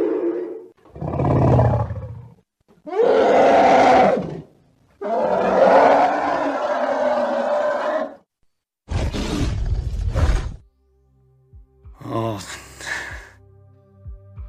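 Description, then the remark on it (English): A Rancor, a large Star Wars creature, lets out a series of loud, deep, growling roars in separate bursts with brief pauses between them, ending in quieter snorting grunts. “I'm going to guess Rancor.”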